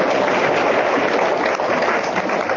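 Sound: audience clapping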